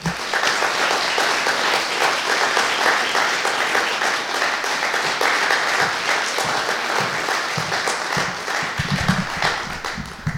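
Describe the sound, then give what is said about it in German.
A large audience applauds steadily for about ten seconds as a speaker comes on stage, a dense, even wash of many hands clapping at a constant loudness with no voices standing out. “Bitte macht jetzt auch einen riesigen Applaus für ihn, wenn er auf die Bühne kommt.”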